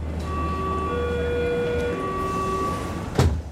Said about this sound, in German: Ich nehme die U-Bahn. Die ist bestimmt nicht vom Blitz getroffen.